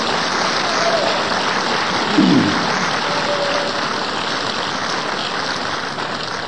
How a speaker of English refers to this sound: Will everybody give a hand clap to Jesus Christ?